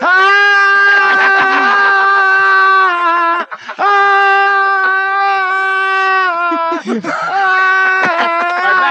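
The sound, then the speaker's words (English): A voice shrieks out sung notes in imitation of a singer, in long, strained, wavering wails, three sustained cries separated by brief gasps, loud, with no instruments behind it. “Shrieking that song out like …, one of the great.”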